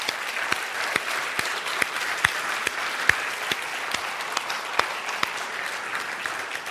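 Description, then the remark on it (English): Steady applause from an audience honoring veterans and members of the armed services standing in the crowd, dense overlapping claps with a few sharper, louder hand claps standing out, sustained at an even level for several seconds with no talking. “All right, let's give our folks a round of applause.”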